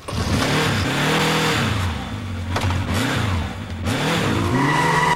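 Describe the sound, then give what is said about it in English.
A motorbike engine roars loudly as Pike rides off on it, its pitch climbing and dropping through several revving surges with a harsh, growling tone. No one speaks. “As Pike roars off on his bike,”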